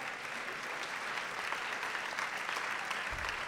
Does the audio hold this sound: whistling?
no